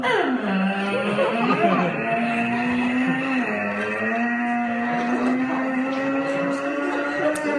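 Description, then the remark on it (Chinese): A voice imitates a heavy, unoiled door, unopened for many years, creaking open: a loud, drawn-out groaning tone that slides down at the start and then holds steady, wavering slightly, for several seconds without any talk. “您这门要开到哪儿去？ 推开了啊， 差不多就行了。”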